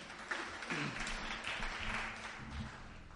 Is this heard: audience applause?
yes